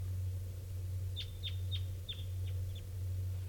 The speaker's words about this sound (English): Well, it's still nearby. I think it was the bird I first heard this morning. It's just an unusual variant of type 2. Or it sounded funny to me at first. That's the bird.